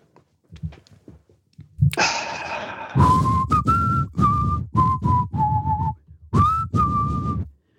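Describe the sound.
A short whistled tune of a song's opening, given as a clue in a song-guessing game, about seven sustained notes, mostly steady in pitch with a few small upward slides, each separated by brief breaths, preceded by soft puffing breaths.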